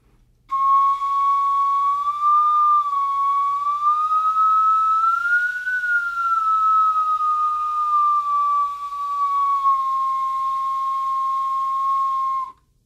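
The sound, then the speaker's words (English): A bone flute holds one long, unbroken note for about twelve seconds, sliding gently up and down in pitch, rising to a higher peak midway before easing back. Steady and loud, with no talking. “The flute also, of course, can make sliding sounds.”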